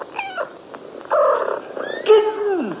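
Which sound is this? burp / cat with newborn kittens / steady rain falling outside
cat with newborn kittens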